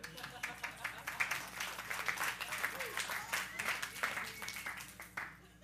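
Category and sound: crowd, audience clapping in church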